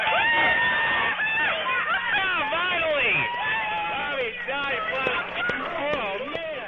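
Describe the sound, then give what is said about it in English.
Scientists and engineers in the control room at NASA's Jet Propulsion Laboratory in Pasadena erupt in cheering and excited shouting on confirmation that the Mars rover Spirit had landed safely. Many voices overlap in a loud, sustained roar of celebration, with whoops and claps mixed in throughout. “That was the sound from the control room at NASA's Jet Propulsion Laboratory in Pasadena when scientists and engineers had confirmation that their Mars rover called Spirit had landed safely on the Martian surface.”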